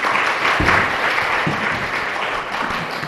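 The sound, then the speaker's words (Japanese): Steady applause from a sizable crowd at a Bible gathering, welcoming a speaker who will explain the Bible. A dense wash of many hands clapping at once holds at a fairly even loudness for a few seconds, with no voices over it. “では拍手を持って歓迎いたしましょう。”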